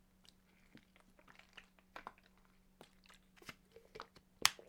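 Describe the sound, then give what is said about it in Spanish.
Someone drinking water: irregular soft, wet mouth clicks and swallowing sounds over a steady low hum, ending with one sharper, louder click. No one speaks. “Qué rica es el agua, ¿no?”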